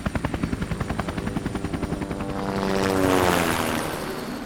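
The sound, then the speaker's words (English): A helicopter sweeps past, its rotor thudding in a steady rapid beat that swells into a loud whooshing roar as it passes, the engine pitch dropping as it goes by. “the familiar symbol of the British flag before the chopper disappeared from view.”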